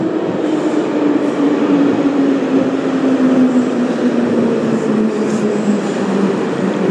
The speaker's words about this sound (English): It's nice when a train arrives just as you arrive. Yes, yes it is. Can't really fault that.